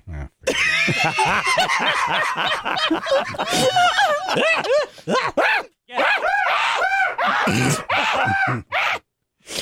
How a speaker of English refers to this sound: Those chickens are havoc, man.